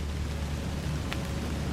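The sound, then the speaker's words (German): Soft, steady rain drums continuously on a soft, mossy path, a dense, even patter with a low rumbling undertone and no voices. “Das gleichmäßige Trommeln von Regentropfen auf einem weichen, moosigen Pfad.”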